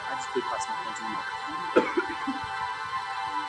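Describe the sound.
A man gives one short, raspy cough partway through, with a low murmur of voices and faint background noise around it.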